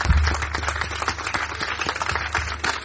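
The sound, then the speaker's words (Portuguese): A crowd at a live music performance applauds steadily in support of people going through difficult times, dense overlapping claps forming a continuous, fairly loud wash of sound with a low hum running underneath and no voices. “Quero pedir assim um forte aplauso de força para todas essas pessoas que estão a passar por momentos mais difíceis.”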